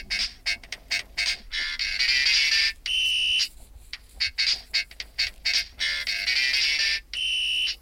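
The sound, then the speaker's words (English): A tiny thimble-sized toy whistle, pushed at the start of each round of a card game, shrills in a rapid, rhythmic run of short high-pitched toots, broken by a couple of longer steady tones, with no talking. “So every time that whistle blows, you have to place your card to the beat each time, and you lose points for not keeping the rhythm.”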